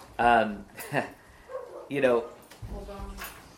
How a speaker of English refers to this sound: Hold on. Did someone say something? No, it was a dog.